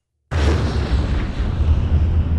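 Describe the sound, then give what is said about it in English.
A huge explosion sound effect representing the Big Bang bursts in abruptly after a brief silence, then roars on as a dense, deep rumble that stays loud and steady without fading, with no voices present. “And he says it's tempting to say noise began with the Big Bang.”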